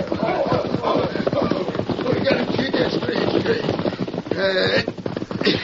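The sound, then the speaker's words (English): Horse hooves clop in a quick, steady rhythm throughout, fairly loud, with voices mixed in and a brief tonal cry near the end. “You won't do anything unless you want to be pulled off that horse.”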